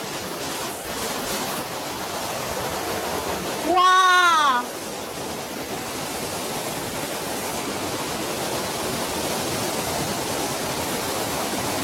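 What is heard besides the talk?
waterfall rushing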